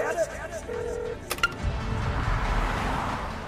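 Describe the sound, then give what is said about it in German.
A car brakes hard and halts just short of a pedestrian who walked in front of it. A short, sharp burst is followed by a steady, fairly loud engine rumble, with a brief horn-like tone just before it. “Sie sind mir doch vors Auto gelaufen.”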